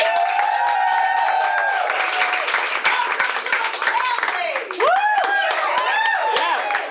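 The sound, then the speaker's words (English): A crowd of fans claps steadily and loudly for several seconds, with cheering voices and rising, swooping whoops mixed in over the dense patter of hands, welcoming an actor to speak. “Be nice and give him a great applause.”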